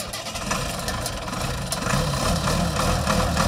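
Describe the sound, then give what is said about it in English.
A 1973 Allis-Chalmers 200 farm tractor with about 1600 original hours idles in Kansas, a steady, loud, throaty engine rumble that holds constant throughout and swells slightly toward the end, with no voices. “This week, we're off to Kansas again to check out an Alice Chalmers 200.”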